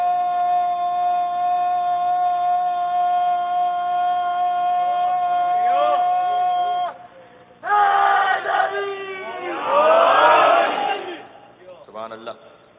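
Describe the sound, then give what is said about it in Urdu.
A large crowd chants a slogan in unison, first holding one long, steady drawn-out cry, then bursting into a louder wave of overlapping shouts that tails off with a final brief call. “آپ کے نعرے نے مجھے مجبور کر دیا کہ میں ایک بات کہوں”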